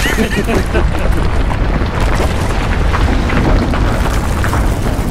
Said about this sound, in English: You just throw up a fresh coat of paint, and as I lean against a wall, the entire building crumbles.